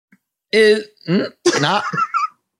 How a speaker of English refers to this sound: Because I'm going to burp it. Okay, burp it.